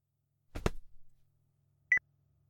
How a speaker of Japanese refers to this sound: おた、電話だわ。